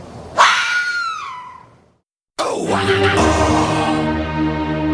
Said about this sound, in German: Wir haben jetzt übrigens ganz exklusiv die Auflösung, wie sich denn ein Fuchs wirklich anhört.